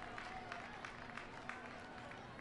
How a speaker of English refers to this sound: And gets a standing ovation from the crowd at Maimonides Park. And the Cyclones one out away from a victory on Easter Sunday.